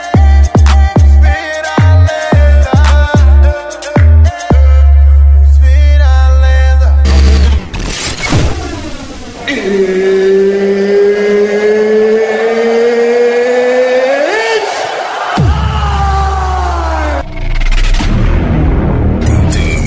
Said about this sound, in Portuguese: Aqui o problema é grave. Caminhão treme terra. Módulos Sound Digital. Spider Alto-Falantes.